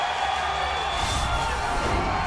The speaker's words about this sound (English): The heavyweight king has returned. Just listen to this crowd. Cain is making his return on ESPN, and absolutely poetic it is.